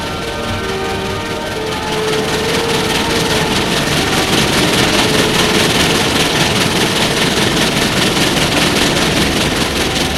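steam locomotive running

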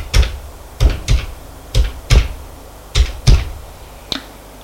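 dialing a telephone number

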